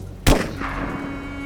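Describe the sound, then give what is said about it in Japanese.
One heavy large-caliber rifle shot cracks out loud outdoors in heavy rain, then rolls away in a short echoing tail over a steady hiss of background noise. “銃声は単発だった。間違いない。ライフル。それも大口径。”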